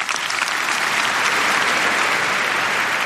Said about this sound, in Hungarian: Pater Lombardi felkérése után Leó pápa átadta Riccardo Muti karmesternek a Ratzinger díj diplomáját, amelyet a 6. Palaulát megtöltő mintegy 5000 részvevő hangos tapsra jutalmazott.